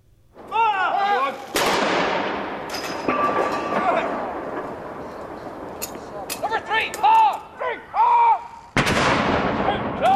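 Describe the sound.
Loud, booming artillery blasts of a 41-gun salute fired at midday across Britain in memory of Prince Philip, one after another at spaced intervals, each sharp crack followed by a rolling echo, with faint voices and crowd noise in the background between shots.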